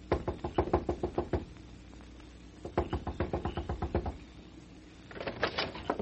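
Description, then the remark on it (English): Rapid, insistent knocking on the door of Ma Jarrett's boarding house in three bursts of about ten sharp raps each, loud, with brief pauses between bursts and no voices. “Knock on the door.”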